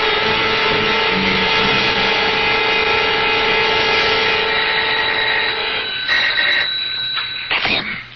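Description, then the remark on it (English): A doorbell rings loudly and insistently, a steady, buzzing electric ring held for several seconds before it shifts in tone and breaks off with a few rattling clicks. “The ring of authority. Are you going to answer it? Open the door before he goes away.”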